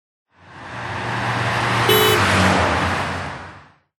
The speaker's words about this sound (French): Nous, on voyage en voiture.